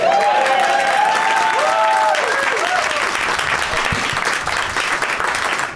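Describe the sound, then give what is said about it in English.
A live audience at a Doug Loves Movies taping in the Nerd Melt showroom at Meltdown Comics in Los Angeles, May 15, 2017, bursts into steady, dense applause. A few whoops and cheers rise above the clapping early on before it settles into a sustained wash. “It's Monday, May 15th, 2017, 174 days till Ragnarok, and this is the 31st show we've taped this year. Applaud.”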